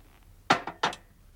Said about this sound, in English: Gene pours himself a whiskey.